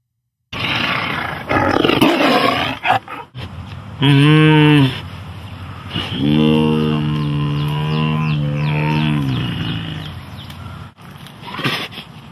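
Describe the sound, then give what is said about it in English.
A person loudly imitates a tiger's roar, a school mascot: a rough, breathy buildup, then a short bellow and a long, drawn-out growling roar that trails off. “If you were a tiger, what sound would you make?”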